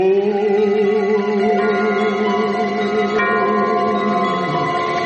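Sustained, resonant tones imitating evening church bells, sung by a choir of voices that hold long notes with slight vibrato. New pitches enter every couple of seconds, steady and fairly loud.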